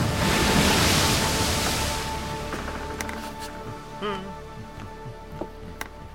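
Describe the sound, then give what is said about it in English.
Ocean waves slap and wash against the bow of John Newton's slave ship, a loud surging rush at first that settles into a steady lapping swash, with faint creaks and tones underneath. “Doubts and questions nagged at him like the waves that slapped at the bow of his ship.”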